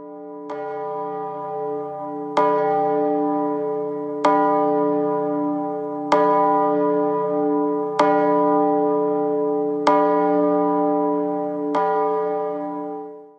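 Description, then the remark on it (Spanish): A large bell, rung by visitors while making a wish, is struck seven times at a slow, steady pace, each loud clang ringing on with a long, humming resonance that overlaps the next strike. No one speaks. “si se toca la campana y se pide un deseo, este se cumplirá.”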